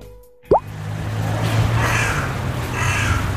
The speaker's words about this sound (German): Und was sagt der Profi? Eine Nebelkrähe. Sehr gut. Und ist es ein Hybrid oder nicht? Das wäre jetzt ein Hybrid.